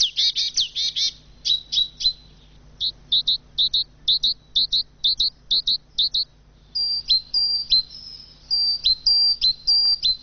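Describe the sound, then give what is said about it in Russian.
Sparrows chirp in a steady stream of short, bright, high-pitched calls, clustered in quick bursts and repeated rhythmically throughout, with no voices present. “Те же воробьи, которых у нас становится меньше и меньше, они будут этому очень рады.”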